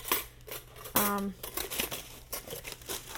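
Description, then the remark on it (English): Paper crinkles and crumples while being unpacked, in a steady run of scratchy rustles, with a brief tonal squeak partway through and a faint low hum underneath. “There's a piece of paper.”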